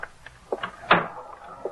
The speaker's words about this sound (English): Shut the door.